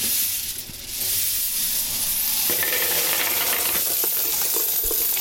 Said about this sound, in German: Also, die Karte ist drin und jetzt kann man sagen, Bargeldeinzahlung, Kartenkonto. Ja, die Scheine werden noch raussortiert.